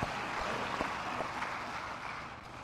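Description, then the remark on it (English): An audience claps steadily in the morning, a dense, continuous patter of many hands at an even loudness with no talking over it, sustained for a few seconds. “You guys are clapping a lot this morning.”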